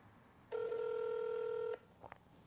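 A single steady electronic telephone tone sounds for just over a second as a prank call is dialed with *67, loud and evenly pitched, followed by a couple of faint clicks. No one speaks.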